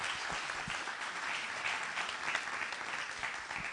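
Steady audience applause at a Homefront session, a dense wash of many hands clapping at an even loudness throughout, with no clear individual claps standing out and no voices over it.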